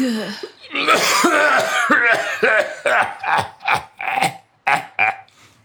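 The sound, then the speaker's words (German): A man's loud wheezing cough: a long raspy, strained hack that breaks into a rapid series of six or seven sharp, hacking bursts before trailing off. “im Mundwinkel eine glühende Zigarette, deren stechendes Aroma alsbald den Weg in mein Schlafzimmer fand, im Rachen einen keuchenden Husten von biblischen Proportionen.”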